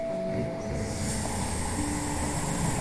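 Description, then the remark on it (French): A person under anesthesia snoring during a medical operation in a steady, raspy drone that fills the whole moment, with a faint electronic tone humming in the background. “Un peu parce que je suis documentariste, beaucoup pour me rassurer, je décide d'enregistrer tout ce qui va m'arriver durant l'opération, ce qui m'oblige à assumer un défaut dont j'ai terriblement honte. Je ronfle.”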